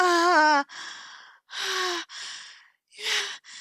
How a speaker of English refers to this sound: Oh, you're breathing heavily.